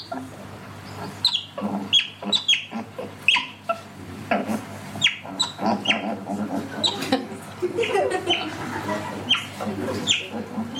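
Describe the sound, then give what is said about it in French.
An otter gives a rapid, irregular series of shrill, high-pitched whistles and squeaky chirps, some sharp and piercing, over a low steady hum. “La loutre, mammifère carnivore semi-aquatique, aux pattes palmées, mangeur de poissons, devenu rare, car il est activement chassé pour sa fourrure, son sifflement est strident.”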